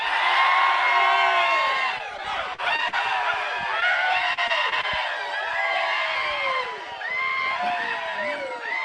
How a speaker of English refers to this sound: And I want to give a rebel yell so loud, that our ancestors can hear it up in heaven tonight. Do you think we can do that? Let's see. I want a rebel yell the best you can muster. One, two, three.